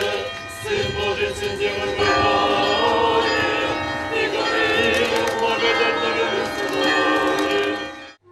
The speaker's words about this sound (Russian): духовенство кафедрального собора, воспитанники Рязанской православной гимназии и многочисленные верующие под праздничные песнопения и звон колоколов.